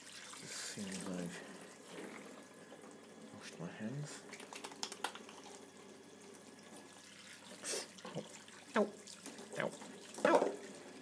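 hot water running

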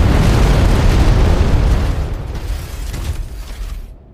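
explosion

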